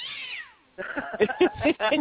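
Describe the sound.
A cat meows: one long, falling meow fades out, then a quick run of several shorter, insistent meows follows, loud and clear with no talking.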